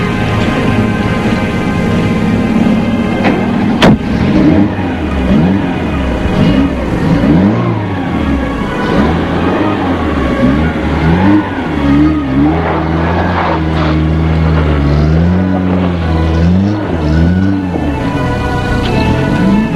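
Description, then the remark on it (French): A car engine runs steadily throughout a trip to Courchevel 1650 in Savoie, France, its pitch rising and falling as the vehicle accelerates and shifts, loud with a continuous drone and no voices. “Dans la voiture, il s'est mis sur le siège arrière.”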